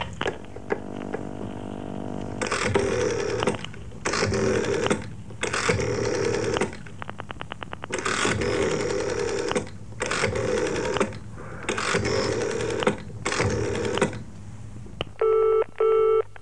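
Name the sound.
telephone being dialed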